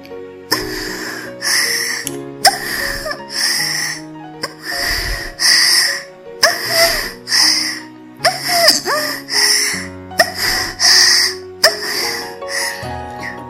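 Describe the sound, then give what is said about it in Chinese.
A single voice imitates rhythmic push-up style moaning: about seven strained, breathy bursts in a steady push-up-like cadence, each rising and falling with brief pauses between, fairly loud and with no other sounds. “然后第四种呢，是俯卧撑式的声音。俯卧撑式的声音是这样。”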